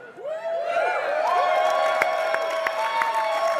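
audience cheering and screaming

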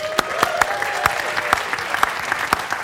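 audience round of applause

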